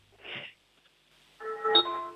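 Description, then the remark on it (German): A doorbell in Straden, Styria, rings with two notes, a short first tone followed by a longer, resonant second tone that lingers and fades. The chime is fairly clear, with no talking. “Wow, das ist aber eine tolle Türklingel gewesen.”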